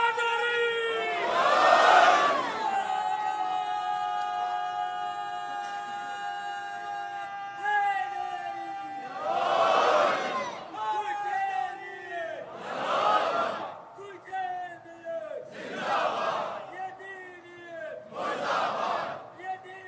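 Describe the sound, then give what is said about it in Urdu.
A large crowd chants religious slogans in unison, roaring in repeated bursts about every two to three seconds, with a sustained tonal drone running beneath the rhythmic shouts. “… اپنے بچپن سے ایسے ہی نعرے لگا رہے ہیں، میرے بچپن سے نہیں، یہ اپنے بچپن سے.”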